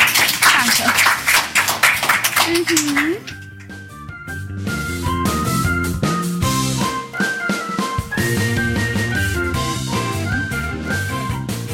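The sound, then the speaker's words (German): A burst of loud audience applause fills the first few seconds, with a voice calling out over it before upbeat music takes over. “Vielen, vielen Dank, dass ihr am Mikro wart und nochmal einen Applaus für euch.”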